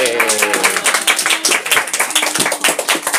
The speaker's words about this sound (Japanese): よくできました。はい、みんな拍手、イエーイ。